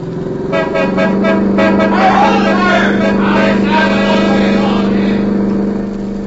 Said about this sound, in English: Watch it. Stay low. The stopping car is ahead. I'll try to drive on through.